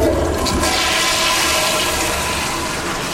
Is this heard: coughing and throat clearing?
no